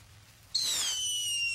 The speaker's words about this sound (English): They set off fireworks in Little Rock.